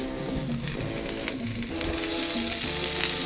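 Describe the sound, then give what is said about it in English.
Food sizzles steadily in a hot cast iron skillet, a dense crackling hiss that holds fairly loud throughout, with a few sharper pops and no voices. “My cast iron skillet is exactly where you want to be. So I'm gonna. Oh yeah, you hear that sizzle?”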